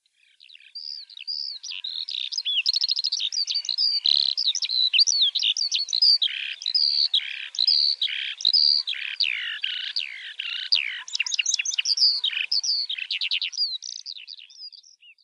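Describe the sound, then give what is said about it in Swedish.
Birds chirp and sing continuously, a lively stream of rapid trills, whistles and twittering notes filling the scene, with no voices present. “Människan har nog alltid undrat över fåglarna, nu och i alla tider.”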